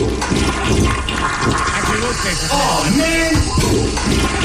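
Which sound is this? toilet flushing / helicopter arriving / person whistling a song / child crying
toilet flushing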